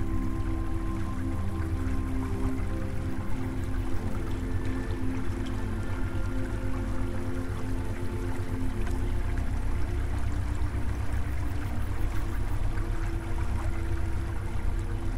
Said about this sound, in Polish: Leżysz w ciepłym strumieniu, a przezroczysty, wartki nurt gwałtownie obmywa twoje ciało.